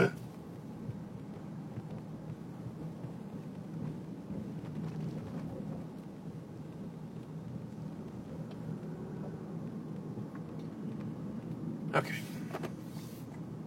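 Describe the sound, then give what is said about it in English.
Steady low rumble of a car rolling slowly through city traffic, heard from inside, with a brief sharp clatter near the end and otherwise little change in the drone. “Oh, all these fucking cars are driving super slow, too.”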